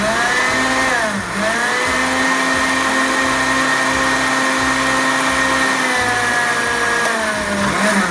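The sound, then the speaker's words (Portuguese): A loud blender runs nonstop, crushing plenty of ice for a milkshake. The high motor whine dips in pitch as the blades bog down, while irregular low clattering thumps from the ice churn underneath. “Então nós vamos botar tudo aqui no liquidificador e vou bater.”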